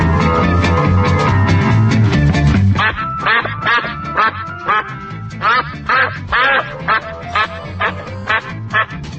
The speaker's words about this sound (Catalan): Això que sentiu, efectivament, són ànecs. I els ànecs, o les oques, en català fan el so nyec-nyec o mec-mec.